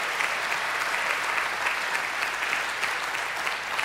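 A crowd claps steadily in a sustained, dense burst of applause that holds at an even, fairly loud level for several seconds, with no voices rising above it.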